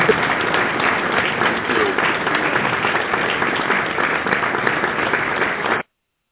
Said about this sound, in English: Amen. That was our KDFI hand of applause. Welcome, welcome, welcome.